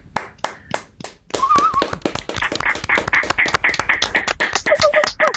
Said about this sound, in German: so jetzt mal im Rückblick betrachtet, ihr habt das ganze Camp gestaltet, ihr wart die Inhaltsgeber und dementsprechend euch auch selber noch mal einen ganz großen Applaus.